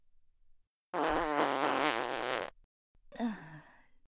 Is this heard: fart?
yes